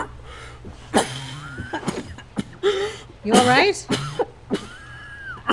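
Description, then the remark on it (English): A person with bronchitis coughs in a rough, repeated fit of sharp bursts, one with a raspy, wheezy edge, while another voice briefly asks something in between. “It's just a bit of the old bronchitis acting up again.”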